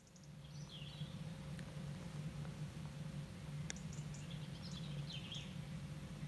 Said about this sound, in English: Like you say, I'm underneath the stars on the University of Exeter's Penryn campus, and despite the stars still being out, the birds are starting to sing. I've just had the first few robins starting up. I don't know if you're able to hear them.